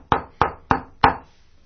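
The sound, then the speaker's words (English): Four sharp knocks on a wooden front door in a steady, deliberate rhythm, the last one slightly louder, each with a short hollow ring. No one speaks. “and there across the room at the front door you hear...”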